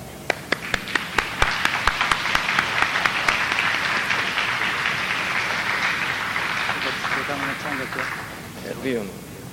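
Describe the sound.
An audience breaks into applause, starting with a few sharp separate claps that quickly swell into a loud, steady wash of clapping. It tapers off at the end as a few voices come through.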